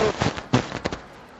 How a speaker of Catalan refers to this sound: la gent, doncs, amb els seus aplaudiments, està animant el nou pontífex a que surti a la balconada. Hi ha hagut molta gent que ha esclatat amb aplaudiments